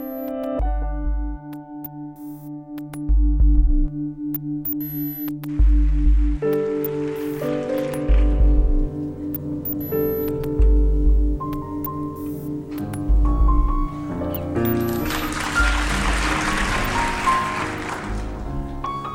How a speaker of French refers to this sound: Tiens, il pleut. Il pleut sur les jardins